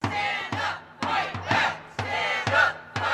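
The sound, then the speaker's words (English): A crowd of about 50 protesters gathered near the Atwood building in Alaska chants in unison, loud rhythmic bursts of shouted syllables repeating about every half second with brief dips between them. “Chants from a crowd of about 50 protesters gathered near the Atwood building could be heard from a couple blocks away.”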